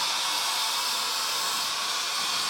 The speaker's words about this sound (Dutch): Maar er komt een hoop stoom uit aan de bovenkant, zie ik.